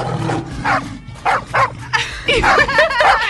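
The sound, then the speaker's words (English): A large dog at a Chinese zoo, passed off as a lion, barks repeatedly in loud, closely spaced bursts, a gruff bow-wow sound over a steady background of low noise, with no one speaking. “And then in 2013, a Chinese zoo was criticized for trying to pass off a large dog as a lion.”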